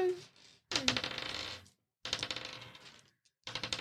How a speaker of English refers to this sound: Okay, I want to have a practice. Can I practice some dice rolls?